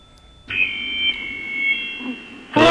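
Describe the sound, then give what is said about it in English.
A telephone rings with one steady, high electronic tone that holds for about two seconds, loud and unbroken, then cuts off into a brief burst of noise. “We got a phone call, though.”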